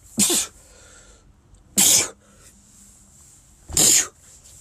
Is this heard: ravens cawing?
no